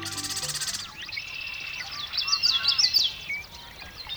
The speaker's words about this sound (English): It's dawn in a western marsh in midsummer, and man, those birds are singing. The males of more than a dozen species are staking out their territories and attracting mates.